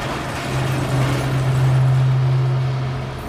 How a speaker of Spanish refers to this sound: La obra. La obra, tenemos aquí a todo. Todo Kiski trabajando. Con maquinaria pesada. Maquinaria pesada, ligera, de todo.